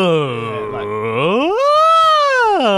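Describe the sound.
A lone voice does a loud, wordless vocal warm-up, holding a low tone before swooping up to a high sustained pitch and sliding back down again.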